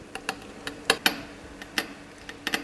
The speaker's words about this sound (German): Also man hört hier gerade den Motor von der Presse, mit der wir dann im Endeffekt den Druck auf die Probe kommen lassen. Man hört jetzt dann, wie die Probe so ein bisschen komprimiert wird. Das ist dieses Knarzen, was man hört.